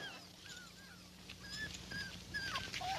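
Several puppies whimper and squeak in high, thin overlapping cries, a steady chorus of soft whining over a low background hum, fairly quiet.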